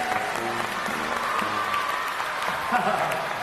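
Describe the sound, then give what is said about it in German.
Steady audience applause in a circus ring greeting Checker Tobi as Clown Tonito fills the whole few seconds, a dense, even patter of many hands clapping, with faint voices and brief tonal sounds mixed underneath. “Checker Tobi als Clown Tonito! Applaus!”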